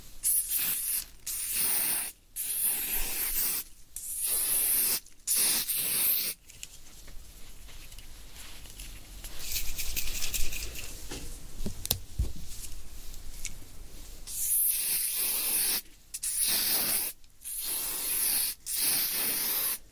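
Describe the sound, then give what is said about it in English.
A spray bottle squirts in a quick series of sharp, hissing bursts, pauses under a softer rustling stretch, then sprays again in another rapid run of loud spritzes. “Spray the thing one more time.”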